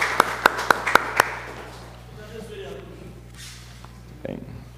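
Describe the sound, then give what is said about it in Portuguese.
Five sharp, evenly spaced handclaps ring out at a steady pace at a city council session, applauding the award of an honorary citizenship title, then stop, leaving a low steady hum and near-silence with a faint thump at the end. “Uma salva de palmas.”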